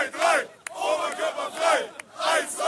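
A huge crowd right outside a stadium chants in rhythmic waves, many voices rising and falling together in loud repeated shouts, with sharp claps or bangs punctuating the chant twice.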